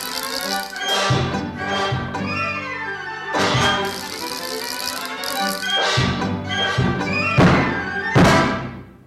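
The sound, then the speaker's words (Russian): A wind-up mechanical toy clatters and whirs, with repeated loud thunks and rattling bursts at an uneven pace, with no talking. “Заводная механическая игрушка.”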